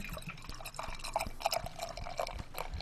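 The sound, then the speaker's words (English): Saison beer pours steadily into a glass, coming out fairly clear and orange with decent carbonation, with gurgling, bubbly splashes and a few small drips as it fills, no voices present. “So it pours out pretty clear.”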